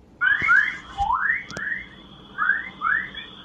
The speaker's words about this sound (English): Not, as you might think, the sound of birds chirping, but something rather more exotic, or perhaps I should say extraterrestrial. Those were electromagnetic waves from space, waves which scientists think are affected by the Earth's magnetic field.